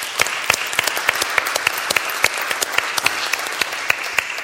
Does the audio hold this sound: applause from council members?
yes